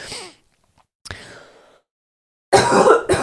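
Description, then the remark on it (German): Coughing and throat clearing by a person who is ill: a sharp hack that trails off, a pause, then a loud, raspy double burst at the end, with no talking. “Kurze Hustenpause.”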